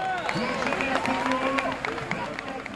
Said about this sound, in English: But at the finish line on the Champs-Élysées in Paris today, it was obvious that rumors of the Tour's demise were premature. Fans lined up, four and five deep, to cheer the riders on.